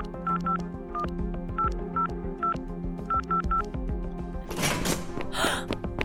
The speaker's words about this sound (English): started punching in numbers on her phone.